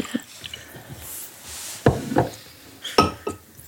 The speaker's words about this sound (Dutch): Wij klinken altijd de aflevering uit om het maar door te spoelen. Nee, het is van een goed jaar. Van een goed jaar. Ja. Van een tap eigenlijk.